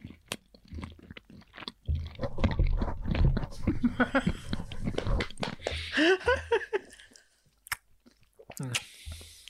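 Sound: loud smacking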